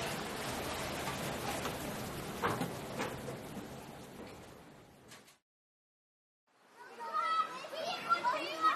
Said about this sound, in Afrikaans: Ek het al vergeet hoe 'n skoolgrond vol kinders pouse kan ras.